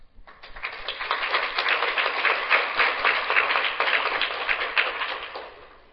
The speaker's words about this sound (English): Join me again in a round of applause for all the presenters,